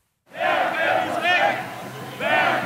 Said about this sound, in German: Tausende Corona-Gegner ziehen am Samstagabend durch die Leipziger Innenstadt, ohne Maske oder Abstand.